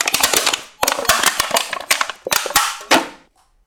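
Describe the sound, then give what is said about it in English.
An aluminum can being handled and crumpled, giving a dense run of sharp metallic crackles and pops in bursts for about three seconds before falling silent. No voices. “An aluminum can.”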